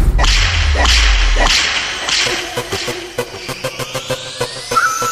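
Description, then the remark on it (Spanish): Four sharp whip cracks snap out one after another over a deep bass rumble, followed by a quick, rhythmic run of crisp percussive hits and a rising synth tone. “Castígala, dale un latigazo.”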